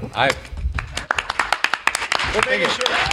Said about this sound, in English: Making sure he gets applause this time.